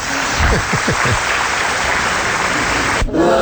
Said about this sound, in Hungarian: Na, hát igen, ez még egy taps.